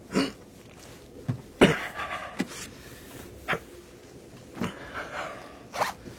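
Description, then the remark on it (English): A bag is taken down, unzipped and opened: a quick zipper rasp, then irregular rustling, tugging and fabric handling with several sharp bursts and quieter gaps. No one speaks. “I must look into that bag. Sure. Take it down and look.”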